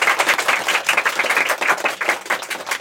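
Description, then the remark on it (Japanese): A crowd applauds steadily, many hands clapping in a dense, crackling wash that holds an even level throughout, with no voices audible over it. “ね、あ、じゃあ拍手いただきます 。”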